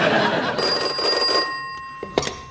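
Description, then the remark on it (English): The Bat Phone at Wayne Manor rings with a bright, sustained metallic tone that cuts off abruptly, followed by a clatter as if the receiver is picked up, with faint background voices early on. “The Bat Phone is only to be answered by me.”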